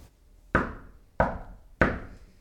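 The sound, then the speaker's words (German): Three firm knocks on the wooden door of an inn's keepers late at night, evenly spaced, each ringing briefly before fading. No one speaks. “Bevor alle schlafen gehen, später in der Nacht, klopft Jovis nochmal an der Tür der Lötsleute.”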